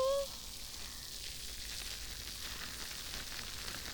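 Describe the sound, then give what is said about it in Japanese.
Foam of a carbonated mint shampoo, lathered in the palms, fizzes and pops beside the ear in a steady, soft crackle of tiny bursting bubbles that continues evenly throughout, after a brief trailing voice at the very start. “耳元で炭酸の泡が弾けてるの分かりますか？”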